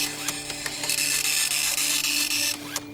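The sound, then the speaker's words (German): A dot matrix printer, which builds letters from individual dots, prints with a loud, buzzing high-pitched screech, broken by short clicks and brief pauses as the print head moves, steady throughout with a constant low hum underneath. “Das ist ein Matrix-Drucker, der setzt die Buchstaben aus einzelnen Punkten zusammen, wie man hier ja auch ganz deutlich sehen kann.”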